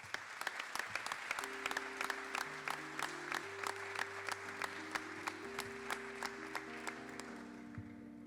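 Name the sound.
audience applause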